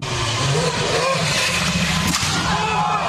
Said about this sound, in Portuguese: O carro dele vem bem devagarinho ali na curva e bate, né? E a galera ficou meio vibrante com esse lance aí do Vettel.